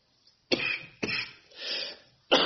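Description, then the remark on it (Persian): A cluster of harsh coughs from a seasonal allergy: two sharp bursts in quick succession, a softer wheezy exhale, then another forceful cough at the end, with no talking. “بحثای عرفانی خوندیم، فقط این سرفه سالانه که پیش میاد ما از عرفانی اینو فهمیدیم که اربعین میگیره.”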